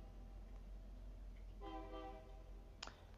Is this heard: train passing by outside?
yes